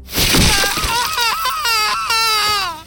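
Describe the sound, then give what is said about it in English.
A sharp crunching snap of a woman's finger bone being broken, then loud, high-pitched screaming from a small cabin in a swamp that wavers and quivers for a few seconds without pause. “the high-pitched screaming emanating from the small cabin was the most animalistic. As I shattered another of Constance's fingers”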